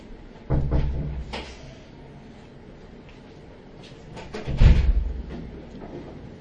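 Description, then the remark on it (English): A door at the front of a room opens and shuts, with a low wooden thud early on and a heavier thump with rattling a few seconds later, amid faint background noise and no talking. “One problem with the design of the rooms over here is that the doors, and it's true also regarding the big shiur room, is at the front and not in the back.”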